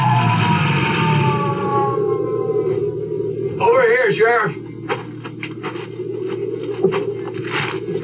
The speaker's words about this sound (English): Well, I got the Jeep started without too much trouble and headed for the bottom of the ski run with my red flasher blinking and the siren whining.